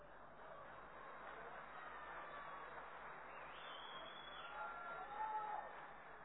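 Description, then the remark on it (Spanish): An audience claps at a joke about social media posts, steadily for about six seconds, a dense, even wash of many hands with a slight swell and a brief high cheer toward the end. “Lo raro que ustedes aplaudan esto.”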